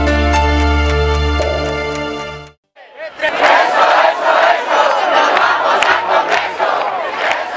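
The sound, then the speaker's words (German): A sustained musical chord cuts off, then a loud street protest crowd takes over, many voices chanting and shouting together in a dense, continuous roar with rhythmic surges, people in southern European cities protesting against poor job prospects for young people. “Erinnern Sie sich noch an diese Proteste?”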